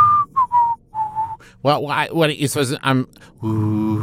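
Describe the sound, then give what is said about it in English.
Several short whistled notes, breathy and gliding slightly downward, imitate a pan flute melody with the mouth, followed by a burst of voiced vocal sounds and a sustained hummed tone. “A pan flute? Yeah, just do a sound of what it sounds like. Do the song. It sounds like whistling.”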